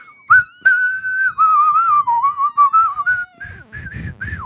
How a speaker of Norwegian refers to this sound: Ja, hvis noen av deg kan plystre åpningsspillingen.